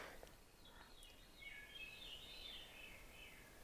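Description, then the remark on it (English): A wood thrush sings, its fluty, ringing phrases drifting faintly over a soft background hiss, with no voices present. “The song is the song of a wood thrush.”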